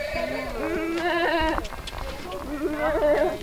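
Several goats, including one named Sixtine, bleat in overlapping, wavering calls that run almost without pause as they are let out and set off following people, fairly loud against a low rumbling background.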